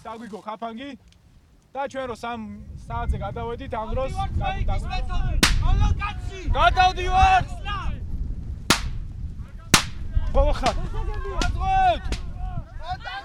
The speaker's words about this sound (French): Il y a des simulations d'embuscades, les encadrants allument des pétards. En ce moment-là, toutes les recrues s'allongent sur le sol et elle se replie méthodiquement vers une zone sécurisée.